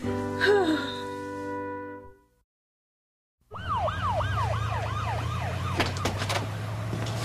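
ambulance siren

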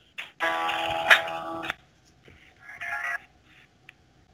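telephone call connecting tones

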